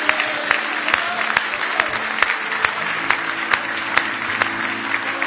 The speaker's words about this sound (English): Give Jesus another big hand clap.